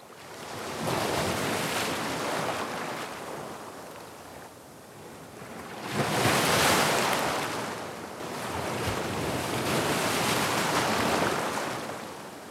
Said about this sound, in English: Speaking of being blue, do you think Jingle just played the sound of ocean waves, kiddos? Oh yeah, that sounds like the ocean to me.